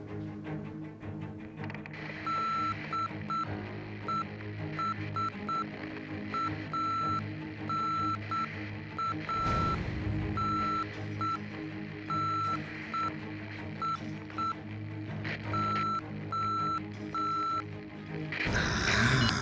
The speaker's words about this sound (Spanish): Veo que sabe clave morse